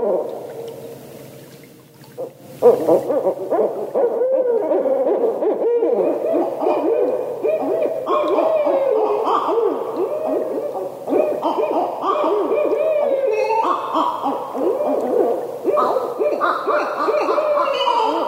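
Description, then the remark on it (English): A barred owl hoots in a long, continuous series of rich, wavering calls, fairly loud, rising and falling in pitch with no talking over it. “Do you recognize that call? That's a barred owl.”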